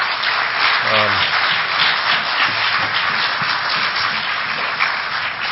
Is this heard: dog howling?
no